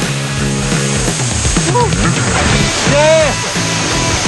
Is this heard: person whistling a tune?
no